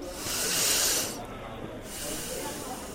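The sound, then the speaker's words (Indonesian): A pupil, told by a teacher to calm down, takes a deep breath in through the nose: a long, airy sniffing inhale of about a second with a strong hissy rush, followed by a brief lull and a softer, quieter breath sound. “Sekarang coba kamu tarik nafas dalam-dalam melalui hidung.”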